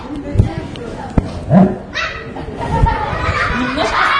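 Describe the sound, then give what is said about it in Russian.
A group of voices, seemingly children, growl and snarl together in imitation of an animal, a rough, noisy chorus with a few higher yelping bursts over about four seconds. “А вы порычите по-настоящему. Страшно?”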